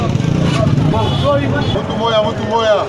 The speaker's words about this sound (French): Nous sommes présentement au rond-point Kiwanja où se trouvent les parkings des voyageurs à motos et camions vers Rubare, Kalengera, Bunagana et Goma et plusieurs autres entités.